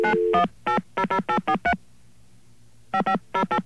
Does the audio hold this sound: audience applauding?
no